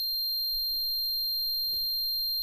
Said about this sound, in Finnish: Korvissa soi yksitoikkoinen sävel.